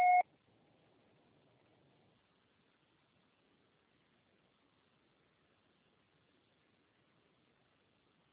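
A single short, sharp electronic beep from an answering machine, loud and steady-pitched, followed by several seconds of faint low hiss and near silence.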